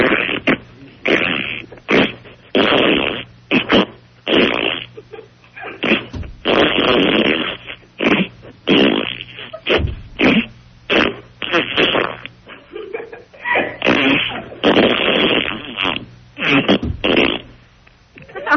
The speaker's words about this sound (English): It's not a burp, it's not a fart, it's not too sweet, it's not too tart, it's 6 o'clock, it's time for a queef.